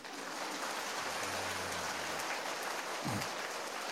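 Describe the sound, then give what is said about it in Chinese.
Steady applause from an audience at a Buddhist dharma talk given by a master: a dense crackling patter of many hands clapping that holds for several seconds, with a brief low hum and a short thump partway through. “拿了照片嘛，就不要再鼓掌了。”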